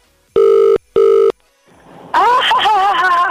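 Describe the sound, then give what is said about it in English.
A telephone rings twice in loud, steady electronic bursts with a short gap between them as a radio show calls a listener in a ticket giveaway, then a rising rush of noise gives way to a voice speaking over it. “Now, we did say the tickets are totally sold out, but we did have some to give away, but there's a very particular way you need to answer the phone if this is your phone ringing right now.”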